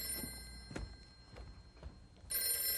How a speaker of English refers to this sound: Oh, is that the phone? I think it is. I must answer it.